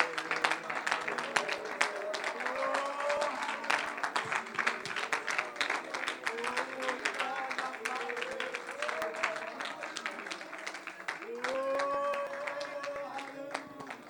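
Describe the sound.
An audience claps their hands to the Lord steadily and continuously, a dense crackle of many hands, while voices call and sing out over the clapping throughout.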